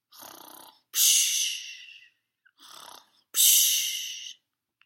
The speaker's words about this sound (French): Il ronfle hyper fort